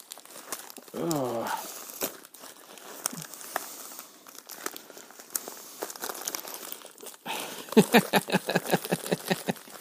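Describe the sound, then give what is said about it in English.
Steady crinkling and rustling of wrapping as a tightly wrapped Secret Santa gift parcel is tugged at while being opened, ending in a quick run of sharp, rhythmic crackles; a short voiced murmur comes near the start. “It seems fairly wrapped, it seems fairly well wrapped up.”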